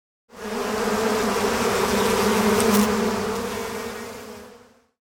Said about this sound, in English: Bees. Bees. Honey comes from bees.